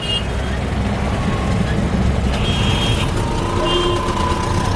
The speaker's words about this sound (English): It has the highest rate in the world, which isn't such a puzzling statistic when you actually experience a day riding around in New Delhi traffic.